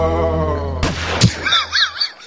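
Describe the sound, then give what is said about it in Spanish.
Two sharp gunshot cracks ring out about half a second apart, cutting across a steady low droning tone, followed by a run of high, warbling chirps as the sound fades. “Atención, se ha oído un disparo.”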